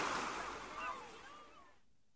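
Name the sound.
sea waves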